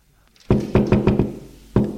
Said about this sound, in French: Il a encore frappé. Entrez !